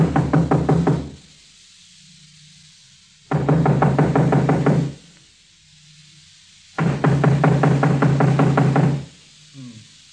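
Three loud bursts of rapid, firm knocking on an office door, each lasting one to two seconds and separated by short silent pauses, with no voices.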